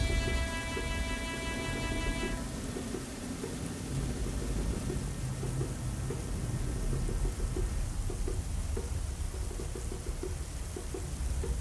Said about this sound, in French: Il y eut un silence. Au loin, on entendait de violents coups de tonnerre.